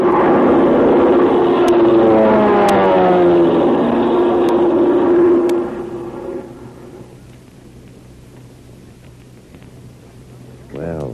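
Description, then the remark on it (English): An airplane engine drones loudly overhead, its pitch sliding as it passes, then fades away after about five seconds, leaving a low, quiet hum. “Wonder who's at the controls of the plane, and what message did this pilot drop for Terry and his friends?”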